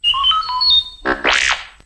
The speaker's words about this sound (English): You will know it is time to turn the page when you hear R2-D2 beep like this.